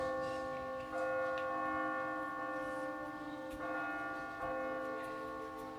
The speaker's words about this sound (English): He had hardly finished speaking when they were summoned to the hall by the ringing of many bells.